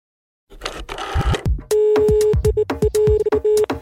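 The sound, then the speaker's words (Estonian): A phone call to Ethiopia being dialed: a burst of line noise and clicks, then a steady electronic tone broken into a rapid series of short beeps, with no one speaking. “Tänane järgmine intervjueeritav on tegelikult mitte üldse Eestis, vaid hoopiski võtab minu kõne vastu Etioopias”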